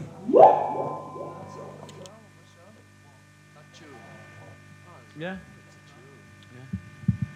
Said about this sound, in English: When the tape is turned back on, they're already in position in the rehearsal space. Paul whoops into his mic to trigger the Binson echo.